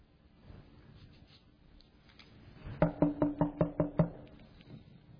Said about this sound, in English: And all I hear is a knock.